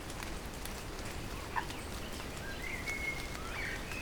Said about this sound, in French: Une pluie fine dans la forêt. Ambiance.